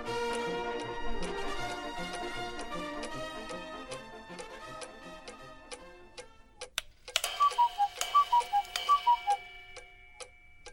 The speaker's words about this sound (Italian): Perché l'orologio te lo sei portato qui allo studio, invece di tenertelo in casa? Perché Massi non lo sopporta. Dice che fa un casino assurdo.